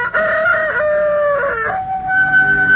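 A rooster crows loudly at sunrise on the Emerald Island in one long, drawn-out call, its harmonic tone rising, wavering and sliding in pitch over about three seconds, with no voices present.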